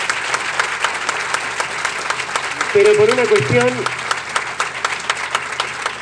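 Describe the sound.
An audience claps steadily, a dense wash of applause throughout, while a man's voice briefly speaks over it near the middle.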